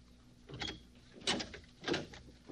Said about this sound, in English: Now look, shut up and open that door.